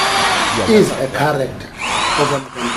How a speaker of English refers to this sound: It sounds like Gwede Mantashe is busy drilling something. What's that, Gwede?